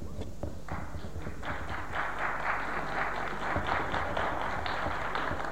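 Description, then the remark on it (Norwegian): An audience at a meeting of the Norwegian Student Society (Det norske studentersamfunn) applauds as a speaker goes up to the podium, many hands clapping in a dense, steady wash that holds at an even, moderate loudness throughout, with no voices on top. “Takk for det, jeg den første som fikk applaus, merket jeg gikk opp på talestolen.”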